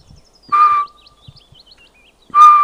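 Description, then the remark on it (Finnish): Two loud, steady whistled hoots by a person mimic a Eurasian pygmy owl's call, spaced about two seconds apart, with faint high bird chirps twittering in the background between them, on a mossy slope of large old spruces hung with lichen. “Ja siihen päälle, kun teikäläinen vetää vähän varpuspöllön vielystä, mutta muuten olisi ihan kiva kuunnella tässäkin.”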